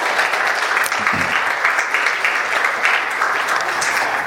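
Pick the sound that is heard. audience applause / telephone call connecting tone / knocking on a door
audience applause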